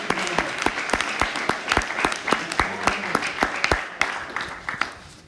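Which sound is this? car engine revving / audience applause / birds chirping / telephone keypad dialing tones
audience applause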